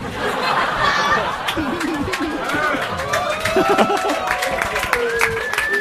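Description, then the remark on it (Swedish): An audience claps in a dense, steady patter mixed with scattered laughter and chatter, while voices talk over the noise throughout, applauding a witty remark. “Vad är det ni applåderar åt egentligen?”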